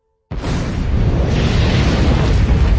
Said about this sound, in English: An explosion ripped up the stairs. The wind smashed us down like toys. The door had blown.